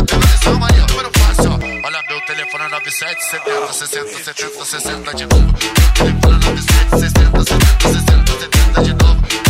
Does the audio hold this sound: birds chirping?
no